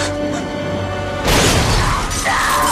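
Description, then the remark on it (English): A steady low hum gives way to a sudden, loud explosive blast as fire bursts from a window, with a crash like shattering glass, followed by a sustained fiery roar that surges again near the end. “Fire explodes from a window.”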